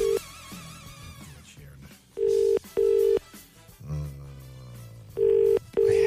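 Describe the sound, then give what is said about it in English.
An outgoing phone call to a woman rings twice without being answered, each ring a pair of short, steady electronic buzzes, loud and clear over faint background music. “Good ringtone on that one. Is she ever going to answer the bloody phone?”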